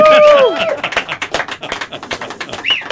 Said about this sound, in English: You got an applause track there?